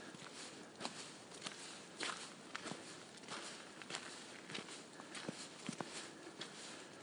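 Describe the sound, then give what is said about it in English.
Footsteps crunch along a gravelly path at a steady walking pace, each step a gritty, bright scrape over a constant hiss of background noise. No one speaks. “Nice setting, you can hear my feet just crunching along.”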